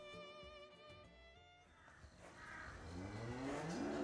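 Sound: cattle mooing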